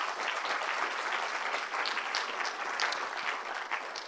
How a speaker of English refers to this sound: Now, round of applause for our volunteers.